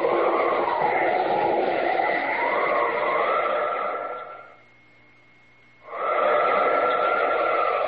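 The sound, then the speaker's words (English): A moving train rumbles steadily along the tracks, loud, with a steady high whine on top. The noise briefly drops away near the end, then surges back. “Out over the train.”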